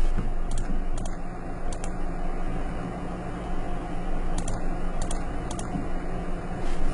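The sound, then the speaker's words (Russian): Scattered keyboard keystrokes click in small irregular bursts over a steady humming background, like a fan or air conditioner, with no one speaking. “Плохо водится очень с клавиатуры.”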